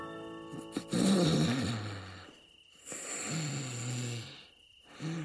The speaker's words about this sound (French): ronflait maintenant bruyamment.